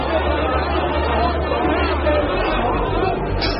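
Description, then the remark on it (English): Steady chatter of a crowd at a Hong Kong temple on New Year's Eve, waiting, many for 5 or 6 hours, to make an offering at midnight: a dense murmur of many overlapping voices with no single speaker standing out, holding at an even, fairly loud level throughout. “The crowd here are waiting patiently.”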